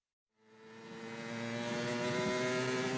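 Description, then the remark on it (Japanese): A motorcycle engine starts up and revs, its strong harmonic roar swelling quickly and then holding loud and steady, with no voices. “いつもクラスの友達とバイクで走っているうちに自然に友達が増えた。”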